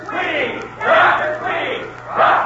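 A crowd in a gym cheers and roars for Dr. Tweedy as he comes in before a basketball game, in broad swelling waves, rising loudly three times over about two and a half seconds, with a steady low hum underneath.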